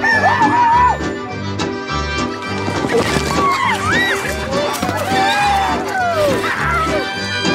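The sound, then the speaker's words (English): Chickens cluck and a rooster crows in short, rising squawks, loud, layered over a steady rhythmic thumping and busy background noise. “Dancing, clowning, and providing some entertainment before your host release the chicken or chickens.”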